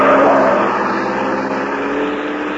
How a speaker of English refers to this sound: a car with Ralph Leonard at the wheel swerves crazily around the corner